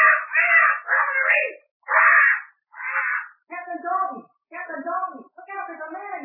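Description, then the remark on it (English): A bird squawks in a quick series of about eight loud calls: raspy, scratchy screeches at first, then more nasal, wavering cries. No one speaks. “Drat that bird.”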